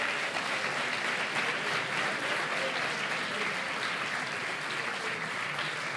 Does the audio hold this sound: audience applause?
yes